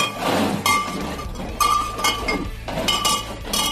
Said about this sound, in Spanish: Este es el sonido que Sánchez no quiere oír. Sánchez no quiere oír el sonido de vidrio de botellas de vidrio o de vino o de whisky en sus viajes por lo ancho y lo largo de este mundo.